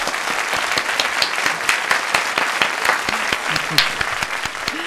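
Sustained audience applause welcoming the executive director of the Festival Yuna, a dense steady patter of many hands clapping at an even loudness for the whole stretch, with faint voices briefly audible underneath.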